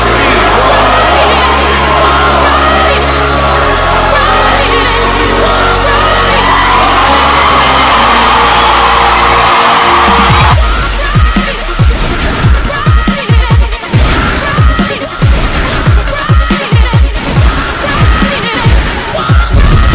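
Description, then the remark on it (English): A concert crowd screams and cheers through a loud live chorus, the voices blending with heavy sustained bass before driving, pounding drums take over halfway through. “Liverpool to Portsmouth, yeah, that chorus got the crowd screaming.”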